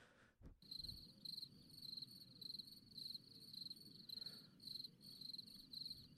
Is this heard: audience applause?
no